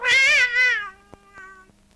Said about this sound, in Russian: Какой кот у вас жуткий?